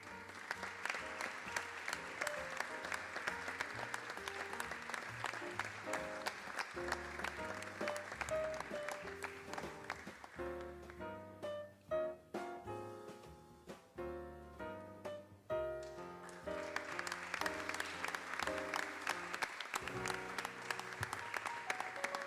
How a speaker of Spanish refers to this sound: Para finalizar, hacemos esa foto de familia con los tres premiados de la modalidad de copla escrita y recitada. Fuerte el aplauso.